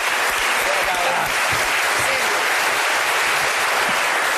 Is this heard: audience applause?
yes